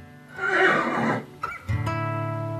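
A horse whinnies loudly, a rising, shaky neigh that breaks off, followed by a short huff and a lower, sustained rumbling nicker.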